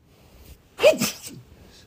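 sneeze

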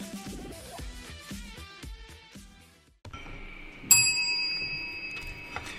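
small bell ringing

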